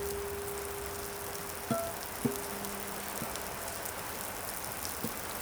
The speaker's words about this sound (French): Il y a un orage terrible avec beaucoup de vent, beaucoup de pluie, et la pluie crépitait à travers les toits. Le vent était violent, il soufflait très fort.